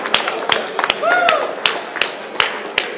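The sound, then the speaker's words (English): A crowd applauding their partners, with a steady wash of clapping punctuated by a few sharp, louder claps and a brief rising-and-falling cheer or whistle partway through. “Let's give a round of applause for your partner.”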